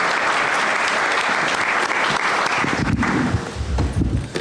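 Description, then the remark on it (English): A large audience at the University of Washington applauds the Husky Marching Band and Cheer steadily, a dense wash of many hands clapping at once, loud and sustained throughout, with faint voices and cheers mixed in toward the end. “Let's give them a clap.”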